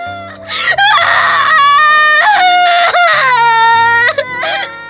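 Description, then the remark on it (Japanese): A person wails loudly and continuously, with long, strained, high-pitched cries that rise and fall, short catches of breath coming between them, with no other sound. “ちょっと泣くのはやめなさい。”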